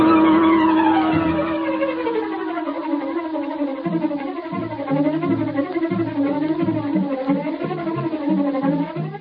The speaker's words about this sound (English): As Bleeker's car swung into the street and turned toward Schaefer's parking lot, a huge, sleek black car started along behind them. It was the car of the Green Hornet.